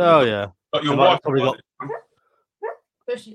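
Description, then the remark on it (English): A dog yelps and whimpers while dreaming, in a string of short, high, whiny bursts, with the later cries growing fainter and more muffled between brief silences. “Sorry if you can hear my dog having a dream in the background.”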